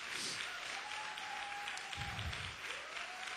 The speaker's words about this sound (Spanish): Vamos a darle un aplauso al padre de esta casa.